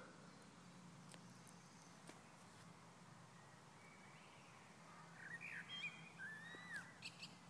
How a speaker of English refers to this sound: Well, I'll leave it running for the rest of the recording time, so you can hear birds and other bad things like that.